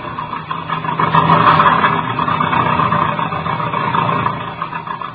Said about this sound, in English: Listen to the tractor.